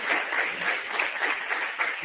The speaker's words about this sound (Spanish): Muy bien, pues el aplauso para el señor Núñez.